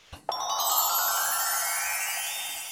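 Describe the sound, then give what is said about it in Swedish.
A phone ringtone sounds as the speaker's wife calls: a bright electronic tone starts abruptly after a short click, then rings on steadily and slowly fades, fairly loud, with no one talking. “Ja, det var min fru som ringde och frågade vad det hela tiden är någonstans.”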